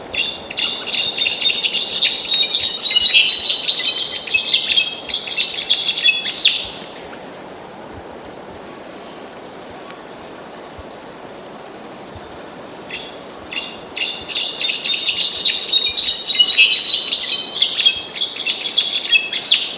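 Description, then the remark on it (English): A solitaire, a kind of thrush, sings intricate, cascading notes like cascading water and tinkling ice, in two long, bright bursts separated by a quieter pause, clear, with no voices. “The solitaires as a whole, which are thrushes, but incredibly intricate sounds, cascading water and tinkling of ice.”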